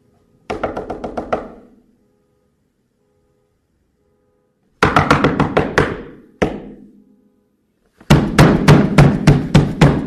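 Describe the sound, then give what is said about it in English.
Three bursts of rapid knocking on a door, each a quick run of sharp raps, loud, with pauses of silence between them and no voices. “would somebody answer the door?”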